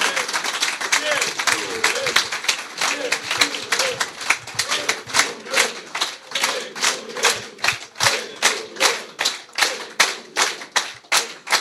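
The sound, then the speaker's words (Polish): An audience gives a triple round of applause to thank a hard-working team of men, with broad bright hand-claps that start dense and overlapping, then settle into a slower, more rhythmic unison beat toward the end, with faint voices underneath. “Oklaski trzykrotne dziękujemy.”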